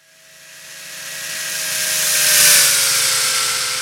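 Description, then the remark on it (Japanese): A power tool whines steadily while cutting off the damaged bumper of the Top Horse team's car in the pit during an endurance race. The bright, high-pitched grinding swells louder and peaks before easing slightly, with a constant tonal hum beneath. “今からバンパーをぶった切る。”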